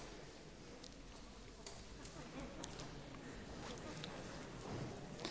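An audience of people moving toward the front, with scattered soft footsteps and shuffling across the floor under a steady murmur of voices, fairly quiet and continuous.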